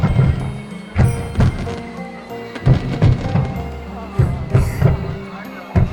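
Fireworks burst in a quick series of booming thuds over a murmuring crowd, several loud pops overlapping with crackling tails, reverberating through an outdoor festival scene.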